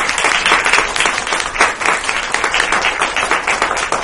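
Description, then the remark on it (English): An audience applauds steadily for a group of experts at the end of a dialogue event, many hands clapping in a dense, even wash of sound that stays fairly loud throughout without any talking. “And let's give a nice round of applause for all of our experts.”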